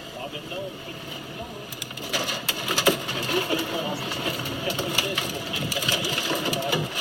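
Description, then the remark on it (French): Freshly dredged volcanic rock, recovered from a volcano and still moving, crackles steadily: a dense, irregular patter of tiny pops and sharp clicks over a low hiss, growing busier and louder after the first couple of seconds. “Mais là, c'est une roche vivante, en fait. Oui, elle bouge encore.”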